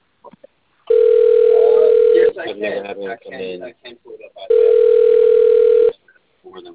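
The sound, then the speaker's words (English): A telephone ringback tone sounds twice, each a loud, steady, mid-pitched burr lasting about a second and a half, with a gap between them where a voice is heard speaking. “Well, it's ringing now.”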